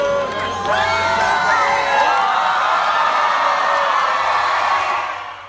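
A large crowd of gathered tennis fans cheers and shouts together outside a window, celebrating Novak Djokovic's sixth title and asking him to throw his sneakers out the window during a TV interview, a dense, sustained roar of many voices with rising whoops, loud and continuous before easing slightly at the end.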